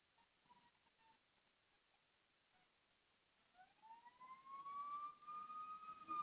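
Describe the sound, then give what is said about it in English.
An emergency vehicle siren rises in pitch and swells in loudness over the last few seconds, sounding as if it is approaching. Before that, only faint tones and background hiss are heard. “You hear that siren, Lorna?”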